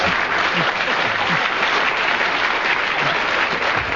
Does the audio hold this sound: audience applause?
yes